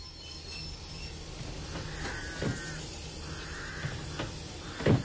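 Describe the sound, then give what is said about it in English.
A train rumbles low and steady as it slows, with thin metallic squeals from the wheels rising and fading and a few sharp clanks, loudest near the end. “do believe the train's slowing now, isn't it?”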